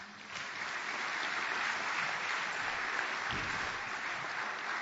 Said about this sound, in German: Ja, dürfen wir ruhig klatschen.